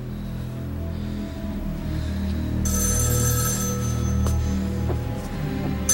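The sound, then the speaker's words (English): A telephone bell rings loudly and insistently over a low, steady background rumble, starting partway through and continuing to the end. No one speaks. “Inside, David answers the phone.”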